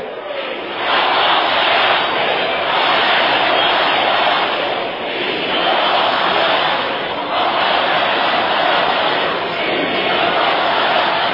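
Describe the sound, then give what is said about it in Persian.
A large crowd of the people of Azerbaijan chants the slogan "Azerbaijan oyakhdir" (Azerbaijan is awake) in unison, a loud, dense roar of voices that swells and eases in a steady repeating rhythm about every two seconds, with no break throughout. “و اگر هر کسی در عالم، هر گروهی، هر جناحی، هر دسته ای از بظاهر قدرت ها بخواهند کوچکترین تعرضی به حقوق ملت ایران بکنند، این فریاد مردم آذربایجان است که آذربایجان اویاخته.”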